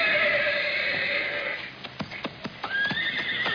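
A horse named Thunder neighs with a long, high, quavering whinny, followed by a few sharp hoof clops and another rising whinny near the end, with no voices.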